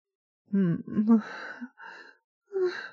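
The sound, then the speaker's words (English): Faint, breathy human moans coming from behind closed doors, a long wavering groan followed by two shorter sighing ones, low-pitched and drawn out, with no words spoken. “Faint moans coming from behind closed doors.”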